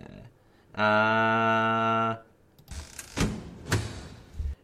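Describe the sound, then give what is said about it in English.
A loud, steady buzzing tone holds for about a second, then a door is shut with a few heavy thuds and rattling knocks. No one speaks. “Yeah, we're closing the door.”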